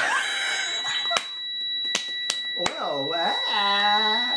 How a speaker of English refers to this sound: And that is our new alarm, folks. That's what that is. Oh my god! That's horrible!